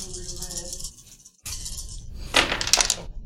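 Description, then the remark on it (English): Four dice, a red, a purple and two black, are rolled: a quick rattling clatter of small hard pieces tumbling across a surface near the end, following a stretch of soft tonal background hum. “So you're going to be at a red and a purple and 2 black dice.”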